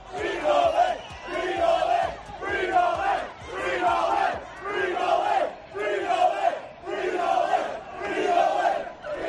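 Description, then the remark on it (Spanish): Hundreds of people shout in unison in the street outside the offices of Novak Djokovic's lawyers, where police stand at the door. They chant a short phrase over and over in a steady, loud rhythm, about seven times, with voices rising and falling together. “En las oficinas de sus abogados, con la policía en la puerta y con cientos de personas gritando esto en la calle.”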